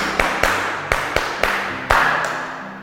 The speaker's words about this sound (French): Très bien, applaudissons pour notre ami.